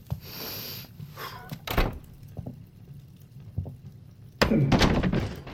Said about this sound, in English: I opened the door and, it wasn't as bad as everyone says.